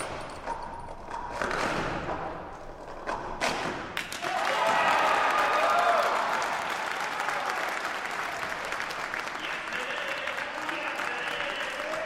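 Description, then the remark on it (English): An indoor audience at the St. Michael Center bursts into sustained applause that swells and stays loud for several seconds, with scattered cheers and whoops in the dense clapping. The applause follows Mike McCoy setting a new world record in the cycle event at a stacking competition. “That day at the St. Michael Center, the applause told it all.”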